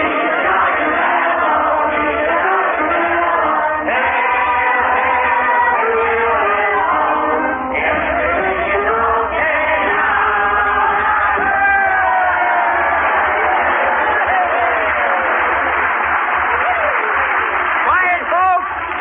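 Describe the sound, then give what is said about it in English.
A large crowd cheers and shouts without pause for about nineteen seconds, many voices overlapping in a loud, dense roar with rising and falling whoops. “Oh, gee, what a crowd.”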